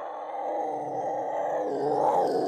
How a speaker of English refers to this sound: I think our microphones were there and captured a mountain lion entering the home.